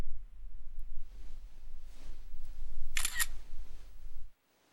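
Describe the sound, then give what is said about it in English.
A single crisp phone camera shutter snap, a short bright click-burst over a steady low hum, with no talking before the hum cuts out. “Go ahead and hand the phone to my good boy and he can snap a shot.”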